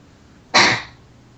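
A single sharp sneeze bursts out suddenly and fades within about half a second, fairly loud, with no talking around it.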